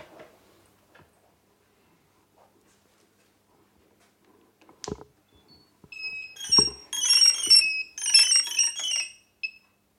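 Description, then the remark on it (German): After a sharp click as the octocopter is switched on following its remote control, its motors emit a series of high electronic beeps one after another as each motor is tested individually during a self-test, bright tonal chirps in quick succession lasting a few seconds. “Ja, dieses einzelne Gepiepe heißt, dass er jeden Motor einzeln durchtestet, ob das soweit okay ist.”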